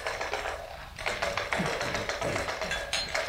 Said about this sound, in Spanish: Sí, estos cuatro hombres se juntan casi todas las noches para eso, para jugar a los dados, desde hace años.